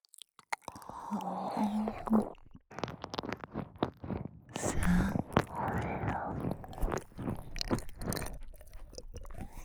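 Wet, slurping mouth sounds of saliva and tongue licking made into the listener's ears, with dense clicks and smacks running continuously at a soft, steady level, with no clear speech.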